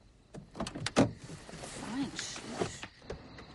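Car doors open and shut, a few sharp clicks and thumps spread over a few seconds, with shuffling movement and a mechanical whir in between, as people get out of the car and one takes the driver's seat.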